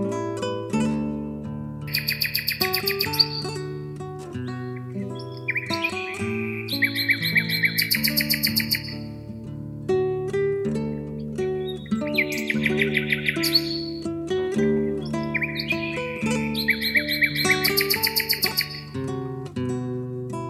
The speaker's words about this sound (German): Das war die Nachtigall.